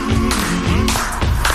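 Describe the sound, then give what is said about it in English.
Loud hand claps land roughly on the beat over a song with sustained tones, a few sharp slaps in quick succession. “Clap on beat.”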